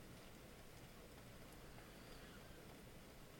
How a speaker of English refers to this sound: Yeah, the rain woke me up too. It sounds nice, though.